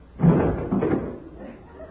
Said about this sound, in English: When I got in bed, I lay down, closed my eyes. Suddenly, I heard a door downstairs slam real hard.